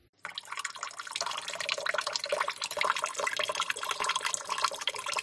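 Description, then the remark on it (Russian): A steady stream of urine from a 70-year-old man splashes into water in a toilet bowl, starting abruptly and continuing unbroken with a bright, trickling sound. No one speaks. “С учетом моего нынешнего возраста, мне 70 лет, и мне приходится быть предельно внимательным при попытках направить струю в унитаз.”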